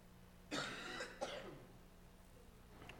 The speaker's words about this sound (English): Excuse me. I was hoping that I would be able to get through this message without a lot of coughing. I got a little bit of a cold